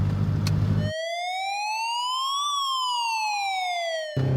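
A loud ambulance siren horn sweeps up in pitch and then back down in one long, smooth wail, with low rumbling noise before and after it.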